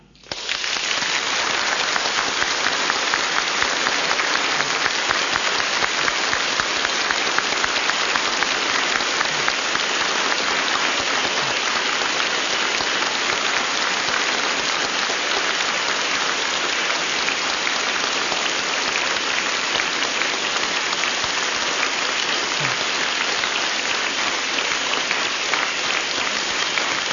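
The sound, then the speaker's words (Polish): A crowd in Ustroń claps steadily for nearly half a minute as a greeting to the Radio Maria family and TV Trwam viewers. It is a dense, even wash of many hands that starts abruptly and stays loud throughout, with no voices over it. “Teraz jeszcze gorąco i serdecznie pozdrawiamy całą rodzinę Radia Maria, widzów telewizji Trwam i nasze gorące pozdrowienia objawione w naszych oklaskach przekazujemy z Ustronia.”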